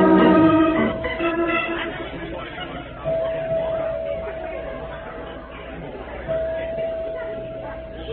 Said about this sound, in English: Such crowds.